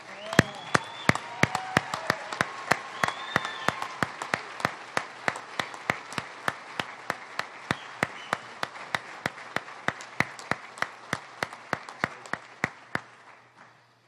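An audience at a police awards ceremony applauds steadily for about thirteen seconds as a police sergeant receives the Gold Medal of Valor on stage: a dense wash of clapping punctuated by sharp, evenly spaced claps that keep a quick rhythm, with a few voices early on, before it fades out.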